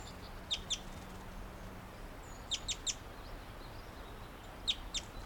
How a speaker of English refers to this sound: That was him chittering back up to the low branch of a tree.